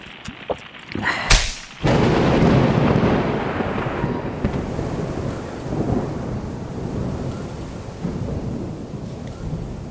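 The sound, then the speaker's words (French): A sharp crack of thunder splits the air, then rolls into a long, heavy rumble over steady pouring rain and blustery wind, loud, with no voices. “Alors bois-la vite et déclenche un orage.”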